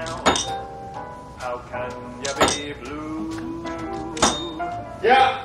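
A reception desk service bell is struck several times at uneven intervals, each sharp metallic ding leaving a bright ringing tone that fades slowly between strikes.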